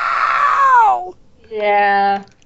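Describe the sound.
A voice imitates the screams of the little droid from Return of the Jedi: a loud, high wail that slides downward and fades, then after a short pause a second, flatter, buzzy electronic-sounding cry held for under a second.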